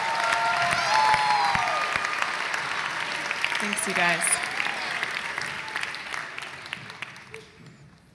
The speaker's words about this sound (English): Let's give kind of a hand clap to God for the gospel choir.